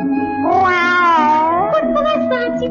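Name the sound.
cat meowing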